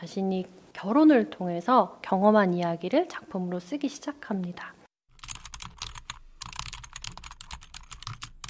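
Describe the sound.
A person speaks for several seconds, then rapid typing on a computer keyboard takes over alone: a steady clatter of many quick key presses, moderately loud, as someone sits at a computer writing a novel day and night.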